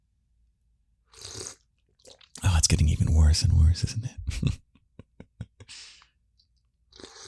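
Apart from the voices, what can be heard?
slurping tea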